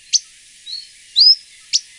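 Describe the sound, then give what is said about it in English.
An akikiki, a small forest bird, gives its simple, high, thin calls: a sharp chip, a soft whistled note, a longer buzzy whistle, then another sharp chip, spaced out and clear against a quiet background, no talking. “It's become very hard to hear the song of the akikiki lately, but their more simple call can still be occasionally heard.”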